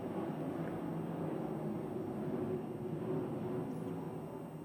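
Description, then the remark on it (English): A steady, low droning roar of planes flying overhead above a home directly under a flight path, a dense rumble that holds at an even loudness throughout with no one speaking. “if you're also new here, the sound that you're hearing is planes flying overhead. I live directly under a flight path, so let's just hold.”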